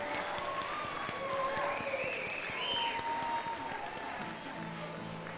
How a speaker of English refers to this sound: Hey, let's everybody give a real quick round of applause for the Applied Trust.